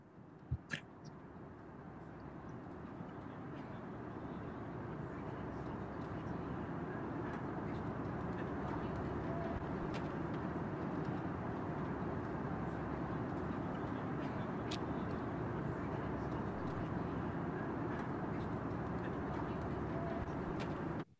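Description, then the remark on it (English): A steady, loud low roar fills the whole recording without pause, like the constant engine drone inside an airplane cabin in flight, with a few faint clicks and no voices. “What if you were to scan for Bluetooth devices on a plane in flight?”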